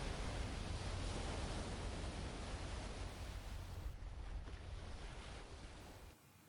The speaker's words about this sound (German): Weiß schlugen die kleinen Wellen ans Schiff. Bis auf eine leichte Strömung lag das Meer still und öffnete ihren endlosen Horizont.